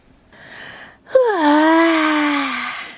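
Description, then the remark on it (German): A voice acts out the character Clara's long, bored yawn while reading the children's story "Claras große Gemütlichkeit": a breathy intake, then a drawn-out voiced sigh that drops in pitch and trails off, fairly loud, with no other sounds. “Gähnt Clara gelangweilt.”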